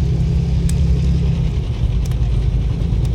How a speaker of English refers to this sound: Above them, the sound of powerful engines filled the bunker, causing a wave of pain to crash through Switch's mind.